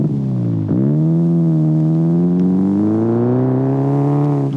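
An American Chevrolet car engine runs loud, dipping briefly before its steady humming pitch climbs gradually as it accelerates, with no one speaking.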